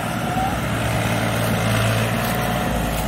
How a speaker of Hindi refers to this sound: ये देखे किसान भाइयों दोबारा से फिर बैक गियर में ट्रॉली को चलाते हुए ट्रैक्टर जो है दिशा भूल रहे हैं अपनी गिल्ले की वजह से।